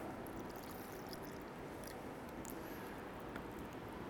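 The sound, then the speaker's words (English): Water pours steadily into a cup, a continuous splashing rush with faint gurgles and small clinks, fairly loud for the whole stretch, with no voices. “And you fill it with some water.”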